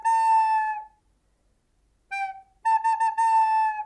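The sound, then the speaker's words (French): An owl's call imitated on a recorder: a long, steady hooting note, a pause, a short note, then a longer wavering note with a quick flutter. Clear, mid-pitched and fairly loud, no talking. “Imitons son chant maintenant. Avec une flûte à bec, ça donne ceci.”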